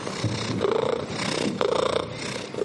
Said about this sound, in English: Yeah, so this is what's known as a solicitation purr.